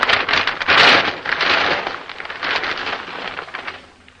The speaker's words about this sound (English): A thunder drum being struck continuously. And some heavy wrapping paper being crushed into a ball in front of the microphone.